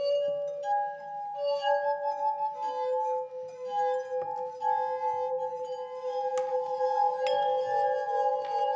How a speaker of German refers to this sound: Wir machen Glasharfenmusik. Wie geht das? Bei Gläser, wo ist Wasser aufgefüllt. Und man tut dann die Finger rein und man tut am Rand des Glas umrunden und dann gibt es Musik.